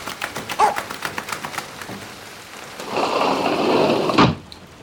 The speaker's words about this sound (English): We can't leave Skipper outside in this rain, said Dad.